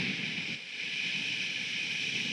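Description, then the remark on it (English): A crowd imitates rainfall with their hands, making a steady, even hiss that holds without a break for a couple of seconds, with no voices. “Everybody, make your hands like this, like it's raining. Let's make some noise like it's raining.”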